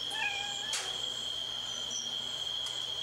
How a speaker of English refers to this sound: We'll get the cats meowing.